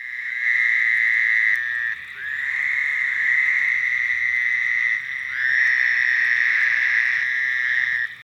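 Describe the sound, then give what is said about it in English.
A Fowler's toad in a forest gives a loud, nasal, buzzy bleat, almost like a bleating sheep, sustained for a couple of seconds at a time in three long drawn-out calls with brief pauses between, clear. “This nasal sound, almost like a bleating sheep, belongs to the fowler's toad.”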